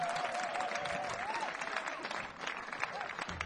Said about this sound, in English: And what about the opening band? Let's have a big round of applause for them.